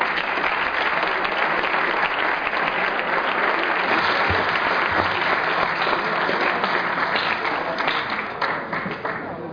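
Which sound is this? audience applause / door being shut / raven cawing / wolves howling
audience applause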